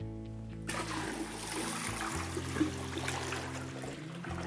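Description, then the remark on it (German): Water is poured all at once from a container into a basin serving as the sea around a model island, in a demonstration of melting glaciers flooding land; a steady gushing splash that starts abruptly and continues for a few seconds, fairly loud, with a low hum underneath. “Was glaubt ihr, passiert mit unserer Insel, wenn ich das jetzt alles auf einmal in unser Meer da kippe?”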